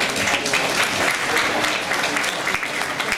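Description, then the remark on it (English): A crowd at an art event claps steadily for the artist of the night, Mr. Zhou Hao, a dense, even wash of applause at a constant loud level throughout, with no voices rising above it. “So let's give applause to Mr.”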